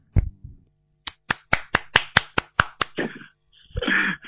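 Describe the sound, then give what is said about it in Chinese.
Sharp, evenly spaced claps ring out in a steady rhythm, about ten in a row, then give way to brief bursts of fuller, denser applause from a group applauding a fellow Buddhist practitioner. No one speaks. “是不是要跟他鼓掌了？”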